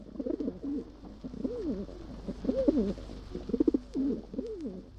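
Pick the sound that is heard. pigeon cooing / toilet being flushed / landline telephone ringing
pigeon cooing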